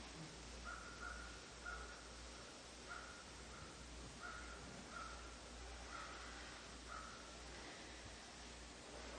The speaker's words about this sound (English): And today the meadow feels very quiet. Only the crows keep up their exuberance.